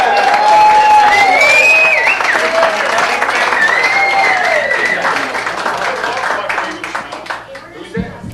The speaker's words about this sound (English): Give them a nice round of hoot and holler and applause.